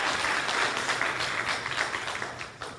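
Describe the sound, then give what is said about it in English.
A church audience applauds the choir and praise team as they return, a dense, steady wash of many hands clapping at once, fairly loud throughout and tapering slightly toward the end, with no talking over it. “Y'all wave at the choir and the praise team as they're coming back. Or clap for them.”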